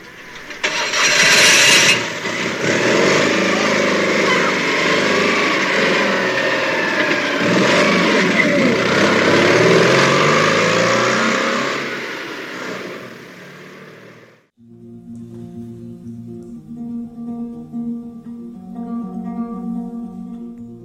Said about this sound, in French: Puis il s'éloigna dans la petite voiture bleue.